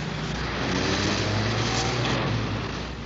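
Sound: car driving away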